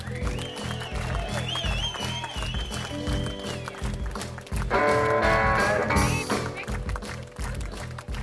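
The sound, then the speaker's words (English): An audience applauds at the end of a show over loud, rhythmic music with a steady low beat, and the clapping swells into a denser, noisier burst partway through before easing back under the music. “Applause for Mr.”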